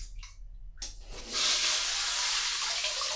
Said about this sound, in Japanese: シャワーなんかさ、結構水圧が強いんですよね。でかいの、シャワーヘッドが。今の手のひらぐらいの大きさがある。